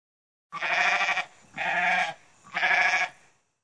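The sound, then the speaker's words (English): A goat bleats three times in quick succession, each call loud and wavering, with short pauses between them and no talking; Brother Goat, a goat character in a children's story. “Hey, I am Brother Goat.”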